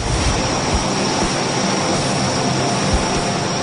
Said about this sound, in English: With turbine engines powering propellers, the Electra cruises at 350 knots, more than double the cruising speed of the C-46, and carries twice the payload, but at a price. This airplane here, we turn jet fuel into black smoke.